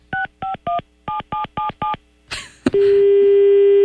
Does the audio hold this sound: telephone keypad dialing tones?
yes